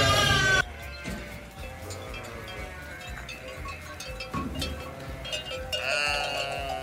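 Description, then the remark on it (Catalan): A flock of lambs bleats loudly and continuously in a pen in Rupià, Empordà, as the farmer opens the gate to let them out to pasture, many overlapping cries with a loud burst at the start and rising again near the end, over a steady farmyard background. “ja ha obert la tanca i ja cap a pasturar-t'ho, perquè ja en tenien ganes, anaven demanant-ho.”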